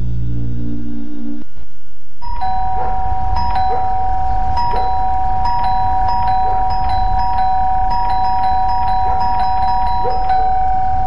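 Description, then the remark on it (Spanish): After a faint low hum and a brief gap, a doorbell rings over and over in a radio advertisement for Sodimac's Cyber online sale, its bright metallic tone restruck in a quick, steady rhythm for several seconds, loud with no talking. “¿Escuchaste eso? El cyber de Sodima que está tocando a tu puerta y tu casa lo sabe.”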